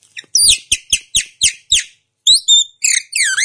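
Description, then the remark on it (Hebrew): A man mimics a common myna with his mouth, live on a radio broadcast and not a recording: six harsh, rhythmic squawking chirps, loud, followed by a few higher whistled warbles, with no talking. “יש ציפור מיין אודית.”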